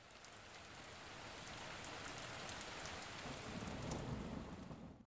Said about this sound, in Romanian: Într-o noapte a început să plouă dintr-o dată, iar micul pescar cu barbă verde nu reușea să adoarmă din pricina zgomotului făcut de picăturile de ploaie.